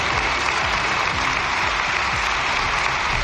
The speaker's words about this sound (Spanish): Creo que está todo dicho con el aplauso que ha recibido de los distintos grupos parlamentarios. Las palabras de Esteban, el agradecimiento de Pedro Sánchez, todo el hemiciclo en pie, todos menos el Partido Popular y Vox.